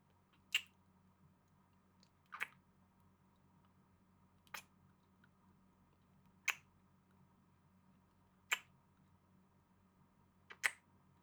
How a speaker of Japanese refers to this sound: それじゃあお互いシャワー浴びたことだし、始めちゃいましょうか。まずはキスから。